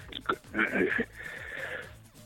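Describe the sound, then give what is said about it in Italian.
A single loud sneeze: a couple of quick sharp intakes, then an explosive breathy burst that trails into a softer hiss of breath. No talking. “Scusate, starnuto.”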